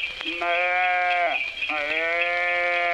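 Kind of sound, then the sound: animal, calf bleating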